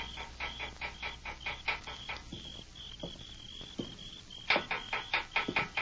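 A stone raps on metal bars in quick, evenly spaced taps with a bright ringing tone, then a brief lull before another flurry of sharp clinks. No voices.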